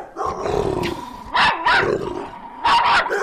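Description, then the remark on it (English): Dogs growl steadily and loudly, with two bursts of sharp, aggressive barking breaking through the snarling. No one speaks. “Dogs are not happy with Michael Vick coming back, but the NFL probably will be.”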